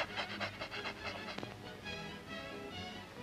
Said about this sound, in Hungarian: Tánc után? Tánc után nem tudok beszélni. Lihegek.